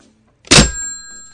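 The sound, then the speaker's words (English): A single hard, clattering slam of a phone handset being banged down, followed by a faint metallic ringing that lingers for nearly a second. No voices. “She slammed her phone down.”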